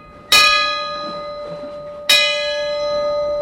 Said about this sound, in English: That's the original bell. It was saved by a crew member when the ship was decommissioned. And technically, still property of the U.S. Coast Guard.